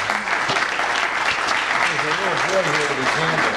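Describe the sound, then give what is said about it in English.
A crowd applauds steadily throughout, a dense, continuous patter of many hands, while a man's voice speaks over the clapping in the second half. “You can clap.”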